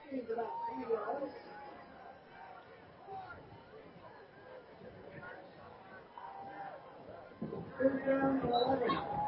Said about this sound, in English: You can hear the crowd in this second half is starting to come back to life after the long Foothill touchdown. One of the great things about local prep sports here in Reading.